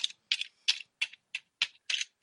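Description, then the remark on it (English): A giant metal T-Rex toy figure (Grimlock) and a giant metal mosquito toy figure bashed together in a quick, uneven series of about eight sharp clanks, each a bright, high clatter with a short rattling tail, with no talking. “I am bashing them together.”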